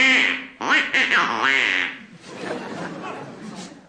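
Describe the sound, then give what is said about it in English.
A nasal, duck-like quacking voice squawks in a rapid run of loud, warbling quacks, then fades into softer, breathy chattering noises. It sounds like a person imitating a duck, the duck character Orville. “So, throwing the egregious duck under the bed, he immediately ate Grandma, with dire consequences”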